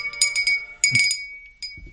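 A small handbell rings in quick bursts of bright, high metallic clangs, each strike leaving a shimmering tone that lingers between shakes, with a brief pause before a final ring.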